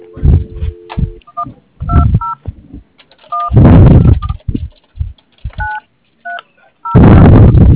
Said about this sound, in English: Okay, hold on. I'm going to call your number. Hold on. I have another phone here.